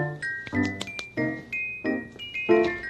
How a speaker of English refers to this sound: Hey, that's the back doorbell. Yeah, just a minute. Coming.